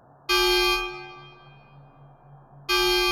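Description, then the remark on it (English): A loud, harsh buzzing alarm blares through Marley Station, a space station, then fades in a long ringing decay before blaring again, over a steady low pulsing hum. “An alarm sounded, echoing throughout Marley Station.”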